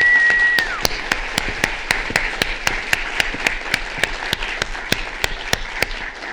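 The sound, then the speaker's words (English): An audience applauds steadily after a passage read by author Shanti Sekaran, a dense wash of many hands with a few sharp, evenly spaced claps standing out. A brief high whistle rings over it at the start. “Clap again for that beautiful passage, Shanti Sekaran.”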